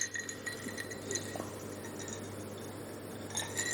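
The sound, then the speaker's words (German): A few dull, quiet clinks of glasses touching in a toast, short taps rather than a ringing chime, heard over a steady low background hum with no talking. “Klang aber auch nicht elegant. Wir haben es nur so gemacht, oder? Ja, auch nicht besser. Sind einfach die falschen Gläser.”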